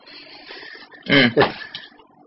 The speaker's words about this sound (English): Sorry, dog's waking up. Just on cue.